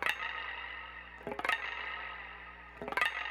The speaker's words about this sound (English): First thing you need to remember is getting the sound of the indie rock guitar. A lot of it comes from your spring reverb and your authentic chorus pedal.